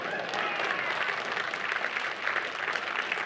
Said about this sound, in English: Come on, brother, light that hand clap up.